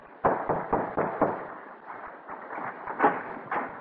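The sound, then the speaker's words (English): Someone raps on a door: five quick, evenly spaced knocks, then a few looser, softer knocks after a brief pause. Sharp and fairly loud, with no voices. “Well, let us knock.”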